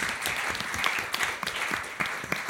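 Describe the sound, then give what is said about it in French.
An audience at a colloquium claps steadily for itself and the speakers, a dense, even patter of many hands that stays at a constant moderate loudness throughout, with no voices standing out. “Je propose qu'on applaudisse vous, le public, et qu'on applaudisse...”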